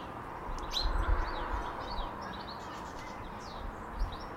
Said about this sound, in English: Yeah. I think it's a sparrow. There were some shouty sparrows again this morning.